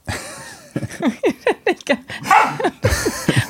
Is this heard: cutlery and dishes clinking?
no